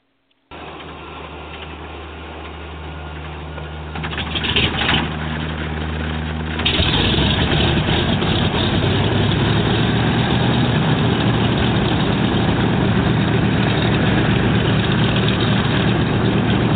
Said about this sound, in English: Sir, a man holding up two fingers for the engine two to start. Roger that. Clear on number two.